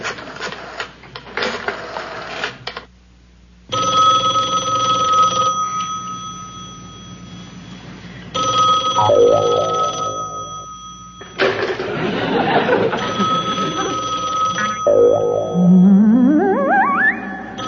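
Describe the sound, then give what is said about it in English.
A telephone rings in sustained, buzzing bursts, mixed with whirring tones and rising, swooping effects. The ringing is fairly loud, and no voices are heard. “Okay, I just got to make a phone call.”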